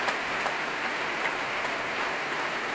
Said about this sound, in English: And the trumpets getting their solo applause. The trombones, marvellous contribution the brass make to this symphony.